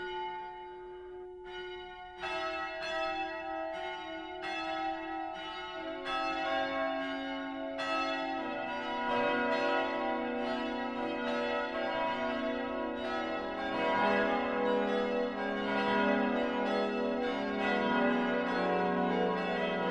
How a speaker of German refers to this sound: Und nicht zuletzt die wachsende Bevölkerung machte in der zweiten Hälfte des 20. Jahrhunderts den Bau neuer Kirchen und somit weitere Glocken notwendig. Darunter sind auch viele Friedensglocken.